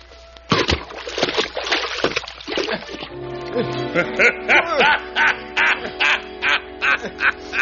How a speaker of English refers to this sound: But then the stranger struck Robin across the head, and Robin fell backward off the bridge and into the water below.